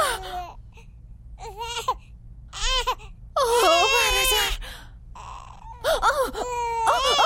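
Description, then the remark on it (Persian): A baby cries in a series of loud wailing bursts with short gaps between them, the pitch rising and wavering, over a steady low background hum. “نه نه نه نه، کجا گذاشتمش؟ پستونکش کجاست؟ صبر کن میام.”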